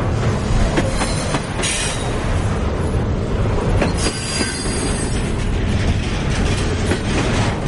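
A train travelling from Timișoara to Bucharest rolls steadily along the rails, with a loud, continuous rumble, periodic clickety-clack beats and occasional high metallic wheel squeals. There is no talking.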